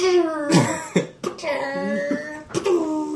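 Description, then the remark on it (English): A voice imitates gunfire with its mouth, like the Foley gunfire and ricochet sounds of a low-budget film: several sharp, breathy bursts spaced irregularly, mixed with pitched, whining tones like ricochets, all fairly loud with no ordinary speech. “It's like somebody made the gunfire sounds with their mouths.”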